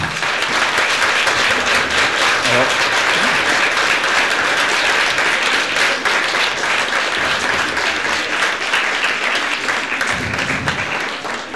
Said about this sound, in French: On va peut-être applaudir.